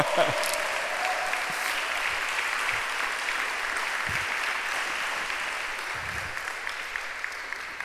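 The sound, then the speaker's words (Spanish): Sustained audience applause given to God, a dense wash of many hands clapping at a steady loud level for several seconds, with faint voices and cheers mixed into the crowd noise. “¿Por qué no le damos un aplauso a Dios?”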